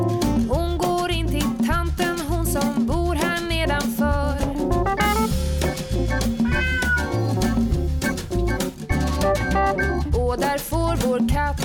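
Repeated cat meows, rising and falling, ring out over a loud, bouncy musical backing with steady bass and rhythm that runs the whole time.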